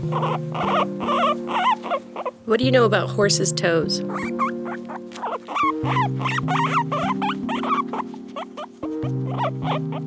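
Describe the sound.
Guinea pigs chirp and squeak continuously in sustained, stepped tones, fairly loud, while a person talks over them for part of the time.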